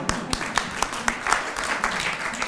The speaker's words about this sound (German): Also gibt's Applaus erstmal? Ja.